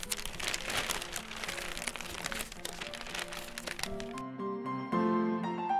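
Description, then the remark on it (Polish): Loud rustling and crinkling of newspaper pages, busy and continuous for about four seconds, before a few sustained musical tones take over and the paper sound stops. “podaj mi moją gazetę.”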